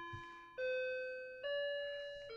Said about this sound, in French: On doit entendre la cloche.